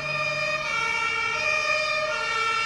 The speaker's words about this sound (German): Dann starten die großen roten Einsatzfahrzeuge mit viel Lärm und Blaulicht und alle auf der Straße müssen ihnen Platz machen.